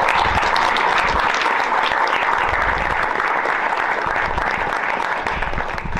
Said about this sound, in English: Give a little round of applause.